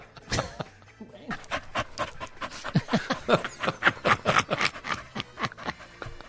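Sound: dog panting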